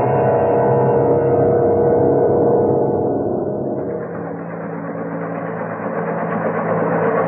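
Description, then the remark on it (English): A craft's helicopter system drones steadily while hovering after re-entry, at a ground speed of 72 miles an hour: a loud, continuous low rumble layered with humming tones. The pitch dips slightly midway, then holds. No one speaks. “Well, before we head in for actual re-entry, we activate the helicopter system. Then we can hover over it for a bit, take a careful look to see what we're getting on to when we land.”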